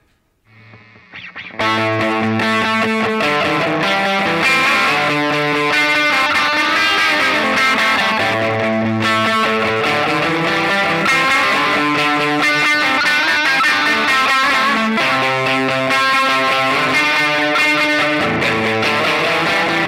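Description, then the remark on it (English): A musical riff played through an echo box starts after a brief quiet moment, then repeats loud and steady with a distorted, layered, reverberant tone. No voices. “I didn't have this echo box.”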